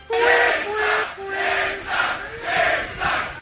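A large festival crowd at Lollapalooza in Chicago chants in unison, loud voices rising and falling in a steady repeated pattern of sustained, tuneful phrases, about three swells over a few seconds.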